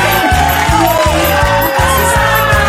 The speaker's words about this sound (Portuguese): Cadê os aplausos?